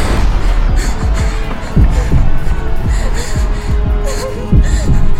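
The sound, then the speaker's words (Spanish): A pounding heartbeat effect thumps steadily in low, booming pulses, repeating roughly every second over a constant low hum, with no voices present. “Mi corazón latía tan fuerte que notaba perfectamente cómo me golpeaba en la parte interna de mi pecho.”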